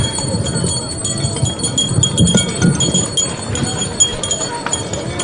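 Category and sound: signal or alarm, handbells ringing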